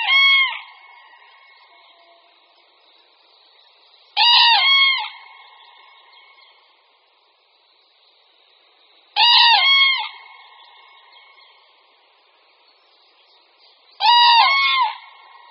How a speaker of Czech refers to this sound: Skutečně mimořádný hlas patří mimořádnému opeřenci. Jeřáb popelavý, kterého posloucháme, je jedním z našich největších ptáků a vzrůstem je vůbec největší.